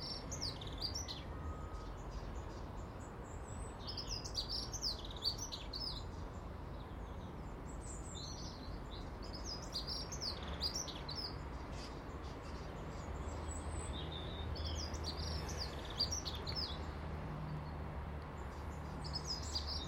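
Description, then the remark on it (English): A blackbird standing on a fence calls outdoors on a cold, dry day under veiled clouds after a soft frost, in repeated short bursts of chirping notes, fairly clear over a steady low rumble of background noise, with no voices present. “Blackbird's standing on the fence, keeping an eye on things.”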